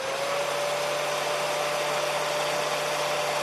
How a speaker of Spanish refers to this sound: Este, que ha sido el sonido de muchas peluquerías esta mañana. Nunca el ruido de un secador de pelo, ¿verdad?, nos había proporcionado pues tanta alegría.